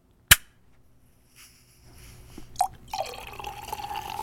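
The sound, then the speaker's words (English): A single sharp pop as a bottle of 2016 Blanc de Noir sparkling wine is opened, a brief lull, then the wine fizzing: a steady, crackling hiss of bubbles that builds and carries on to the end. No voices. “Can you hear that? Nice fizz.”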